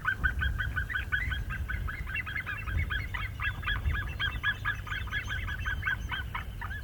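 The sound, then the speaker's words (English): Sea eagles calling back and forth in a rapid, continuous series of sharp, yelping notes, fairly loud and steady throughout, over a low rumbling outdoor background. “The sea eagles are back, and they're calling to each other.”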